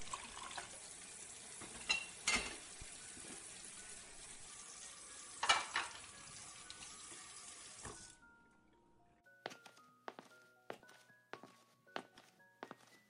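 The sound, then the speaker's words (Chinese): Water runs steadily from a tap while dishes clink and clatter as someone washes the dishes after a meal, then the water shuts off and a few sharper clinks of plates and utensils follow. “我去洗碗。”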